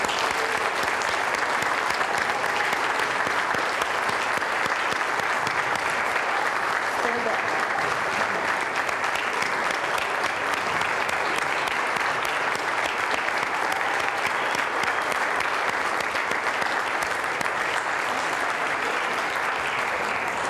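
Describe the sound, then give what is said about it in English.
A large audience at an evening awards program claps steadily for about twenty seconds for a group of awardees and honorees, a dense, even wash of applause that holds at a constant loud level without voices breaking through. “Let's give our outstanding group of awardees and honorees this evening another round of applause.”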